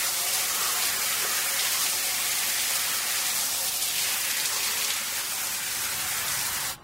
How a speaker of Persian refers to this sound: جمشید توی حمام در حال دوش گرفتن.